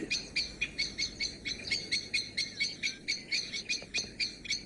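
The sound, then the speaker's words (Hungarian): A blackbird's alarm call, given at a person who came too close to where its mate sits on the nest, repeats in rapid, evenly spaced sharp notes, around eighteen bursts in under five seconds, steady over a quiet outdoor background with no voices. “Ez a jelzés nem a többi madárnak szól, hanem egy kisennek. Arra figyelmeztet, hogy észrevette, hogy lemúgtam.”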